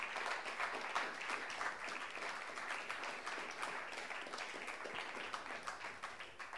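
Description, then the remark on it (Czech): An audience claps steadily for several seconds to welcome a guest being invited up to join the speaker, a dense crackle of many hands with no voices over it, holding an even level throughout. “pojďme mu zatleskat a pojďme ho pozvat nahoru.”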